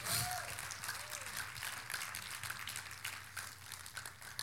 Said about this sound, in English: Somebody say praise God. Let's give the Lord a hand clap right there.